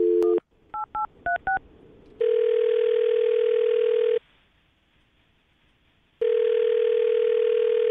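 A brief dial tone gives way to a quick run of five touch-tone keypad beeps as a phone is dialed to call a man, then a loud, steady ringing tone sounds twice with a silent gap between. No one speaks.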